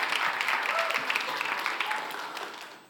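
An audience claps together in a dense, steady patter of many hands, fairly loud, then the applause tapers off and fades out at the end. No one speaks.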